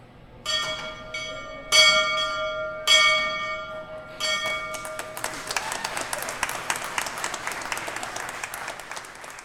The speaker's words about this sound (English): We'll now ring the bell, a daily tradition since the market opened in 1876. Real good yank.